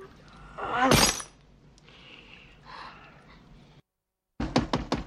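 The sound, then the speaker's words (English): A punch shatters a mirror with a loud impact, followed by softer tinkling and settling shards. After a brief silence, four quick, sharp knocks on a door sound in a tight rhythm. “He punches a mirror, breaking it.”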